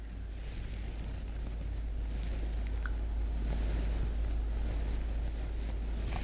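A boat fills with water and sinks: a steady, loud rush of churning water with a low rumble and wind-like noise running unbroken throughout, with no voices.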